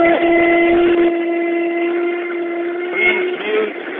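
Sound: train passing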